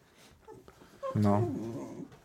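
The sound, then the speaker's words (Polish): A dog whimpers for attention, a single drawn-out, high whining cry that dips slightly in pitch and fades. A soft whine precedes it, with no one talking. “No, ewidentnie słyszycie całkę, która tu się dopomaga atencji, jak nie wiem co.”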